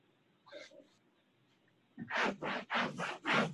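During a council meeting, someone wipes a wall with several quick, loud rubbing strokes in a steady back-and-forth rhythm, each a harsh, hissy swish, following a brief fainter scuff and near silence.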